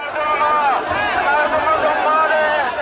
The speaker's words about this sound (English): addressed the cheering crowd, waving green flags and banners and shouting slogans against the government.